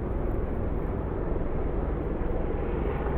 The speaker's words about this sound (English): Listen to this. Helicopters. I can't see them yet. Hang on, there they go.